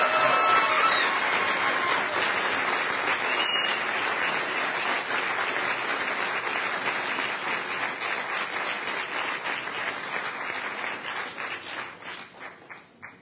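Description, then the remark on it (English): A crowd applauds the Yes Men after their presentation, steady dense clapping that gradually thins out, with individual claps becoming distinct toward the end as it fades. “One more huge round of applause for the Yes Men.”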